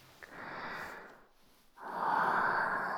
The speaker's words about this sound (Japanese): もう少しでキスしちゃうね。ほら。少し息吹きかけただけで、あなたの口に私の吐息が届いちゃう。